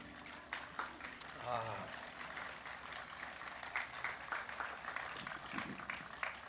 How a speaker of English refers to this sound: A polite applause for the rabbit hunt.